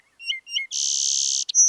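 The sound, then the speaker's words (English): A song sparrow sings: a few quick introductory chirps followed by a sustained, buzzy trill and a final high note, clear and fairly loud with no voices. “We're hearing a song sparrow over here.”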